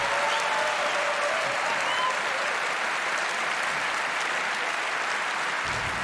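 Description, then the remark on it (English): An audience at a CCC event claps steadily, a dense, even wash of many hands sustained at a constant loud level for several seconds, with a few faint vocal sounds woven into the noise. “So please, a warm round of applause for all of them.”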